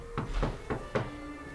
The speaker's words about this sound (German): Gemeinsam gingen sie ins Hotel zurück. Constable Billings stellte sich hinter einer Ecke in Position, während George an der Zimmertür klopfte.